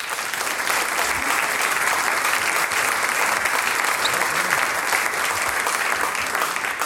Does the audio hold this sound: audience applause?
yes